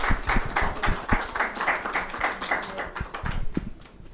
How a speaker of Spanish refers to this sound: Un aplauso, por favor.